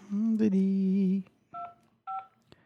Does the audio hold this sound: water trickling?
no